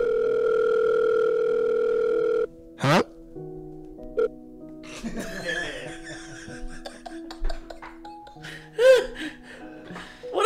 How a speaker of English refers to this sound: Yeah, like the phone doesn't really, the phone knows you better than anyone else, so it knows who you don't want to talk to, so the phone goes brr, brr.